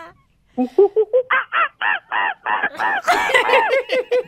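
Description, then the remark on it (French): A person imitates an angry little monkey: a rapid run of short hooting calls climbing in pitch, then bursting into loud, frantic, overlapping screeches. “Vas-y, le petit singe fâché.”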